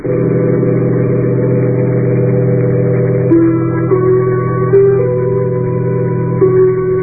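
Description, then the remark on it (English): A heavy bus engine drones loudly and steadily, its pitch stepping upward through several gear changes as it accelerates; no voices. “I'm getting off the bus.”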